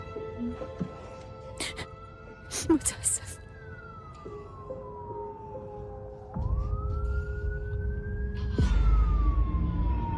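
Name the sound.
police car siren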